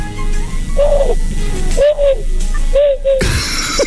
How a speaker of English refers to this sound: Like that. Exactly like that. So, do you know what it was? I think it was a wood pigeon. Probably, yeah. I was going to go with collared dove. I'm going to go owl. I had to come in. I couldn't stand it. No, it sounds awful.